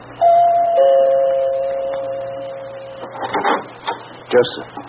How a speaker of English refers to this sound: Back to the night I walked in the shadows of a flagstone path and stopped a moment to look at the name on the door before I pressed the bell.